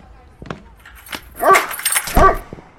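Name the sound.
dog barking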